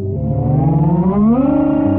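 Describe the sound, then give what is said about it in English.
The rotary engine of a Mazda RX2 car is switched on and hums steadily and loudly with a smooth, whirring buzz of its rotors, then revs up, its pitch climbing and settling higher. No one speaks. “If you have a good ear, you'll hear the rotors whirling.”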